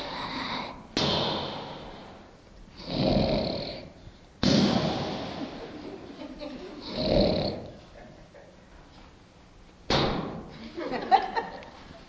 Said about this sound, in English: And that was my son-in-law recording my daughter snoring. She says, well, he snores. And he's proving that she snores.